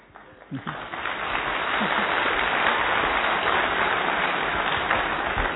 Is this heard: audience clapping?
yes